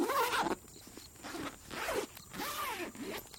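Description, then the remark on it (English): A zipper is pulled along a sleeping bag in several quick, scratchy strokes, fairly loud, with short pauses between pulls and no one talking. “And I zip up my sleeping bag.”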